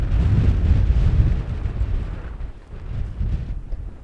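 Strong wind roars and buffets across open upland peatland on an island on a fine day, a loud, continuous low rumble with gusty surges and microphone buffeting, easing slightly midway before picking up again. No voices are heard.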